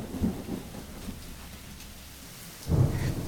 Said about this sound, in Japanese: あれ？外。今日、すごく大雨だね。雷も鳴ってるし。